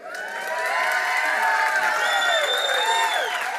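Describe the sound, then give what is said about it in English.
A church audience bursts into loud applause and cheering, celebrating ten salvations so far this year, with sustained clapping, high whoops and shouts from many voices filling the room for several seconds. “Question for those golf claps. How do you think the angels in heaven responded when one of them gave their life to the Lord?”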